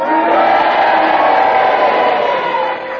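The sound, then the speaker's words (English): An audience yells all at once, cheers for Peter's challenge mixed with long, droning boos for Clement Freud, holding loud and steady for about three seconds before easing slightly at the end. “Now, if you agree with Peter's challenge, then you cheer for him, and if you disagree, then you boo for Clement Freud, and you all do it together now.”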